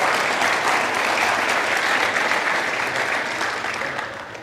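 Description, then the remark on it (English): Steady applause from an audience for Jesus on Easter Sunday, a dense wash of many hands clapping at once, loud and sustained throughout, tapering slightly toward the end. “Let's give Jesus an applause.”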